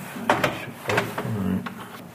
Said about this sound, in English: Bergamin opened up the double doors to the room.